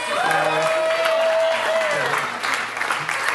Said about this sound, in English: And then I'll just kind of go down the line here, and you can maybe save your applause till the end.